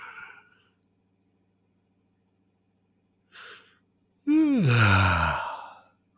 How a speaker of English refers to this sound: I want you to do this wherever you're sitting. Try and get yourself to yawn.